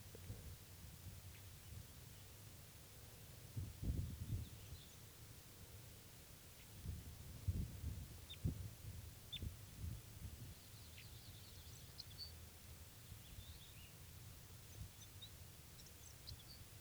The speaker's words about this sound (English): So we're putting him underneath that wild bird now, and he's just getting some soft song here.